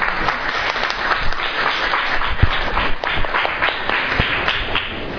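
A large audience claps steadily, a dense, sustained wash of applause with scattered sharper individual claps, fairly loud and close, with no talking over it.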